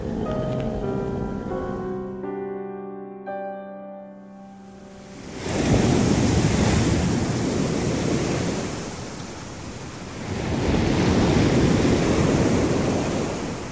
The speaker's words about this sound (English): The waves lap gently on the white sand, the axis of the system to its nearest star causing a permanent state of golden sunset on the azure horizon.